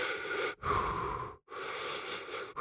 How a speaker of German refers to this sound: Haltet euch mal die Nase zu, so, und jetzt spitzt die Lippen, so als wenn ihr pfeifen wollen würdet. So, und jetzt nur noch atmen durch die gespitzten Lippen.